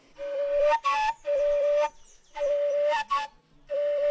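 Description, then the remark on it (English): A breathy male carrizo flute plays a steady, sustained tone in several long phrases with brief gaps, rich in airy overtones, fairly loud, with no voices, in Atanques in the Sierra Nevada. “The male sounds like this.”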